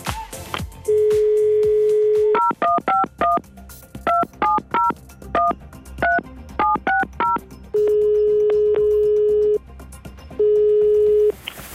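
On the Radio Fantasy morning show, a telephone call to a guest's girlfriend is placed: a steady dial tone gives way to a quick run of electronic keypad beeps as the number is dialed, followed by long, even tones as the line connects, with no talking.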